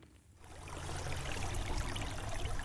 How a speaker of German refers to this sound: Über schmale graue Steinstufen plätschert das Wasser in einen See. Durch die Wasseroberfläche schimmern die Steine, die den Grund des Teichs bedecken. Der gilt als das Herz der Wohnsiedlung Arkadien in Winnenden.